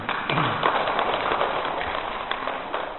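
A crowd claps steadily, a dense rattle of many hands that holds at an even, fairly loud level for the full few seconds, with no voices on top.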